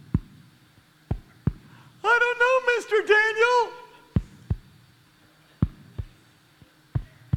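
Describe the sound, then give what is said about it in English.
A heartbeat thumps in steady, prominent double beats, pausing briefly while a voice speaks over it before the rhythmic pulsing resumes. “That's the heartbeat of God.”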